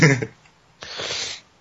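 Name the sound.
sneeze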